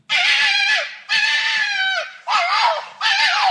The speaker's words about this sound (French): Oui, c'est le renard roux, tout à fait. C'est le renard roux. Ce bruit-là, mais dis donc.